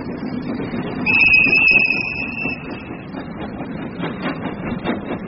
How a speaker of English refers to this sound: On a steam train journey to Dundalk Station,